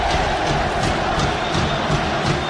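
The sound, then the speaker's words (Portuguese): A large football stadium crowd of fans roars and chants in a dense, continuous wall of voices, with rhythmic swells of shouting rising through the steady noise. “Os gritos da torcida aí, ó.”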